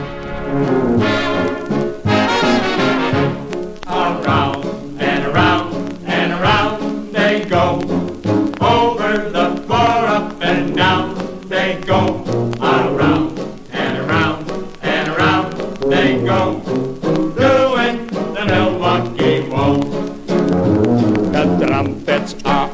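An old-time waltz plays steadily, with a loud, brassy band and a tuba pumping out the low notes beneath a singing voice, full and lively throughout.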